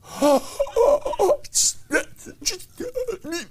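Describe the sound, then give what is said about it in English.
A voice imitates desperate gasping for air: a run of strained, pitched vocal gulps broken by sharp, breathy inhales, fairly loud, with no other sounds around it. “Hey, people are gasping for the grace of God, and rightfully so.”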